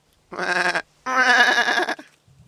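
Jumping goat kids bleat twice in quick succession, a short cry followed by a longer wavering one, loud with no voices around them.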